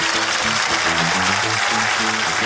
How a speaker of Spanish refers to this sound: Señores, esto fue Papelitos del Público por Hablando Huevadas. ¡Un fuerte aplauso!